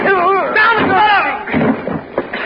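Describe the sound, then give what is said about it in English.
A raised voice cries out, then a sharp gunshot booms partway through, followed by a couple of smaller, quieter bangs. “Go away or I shoot.”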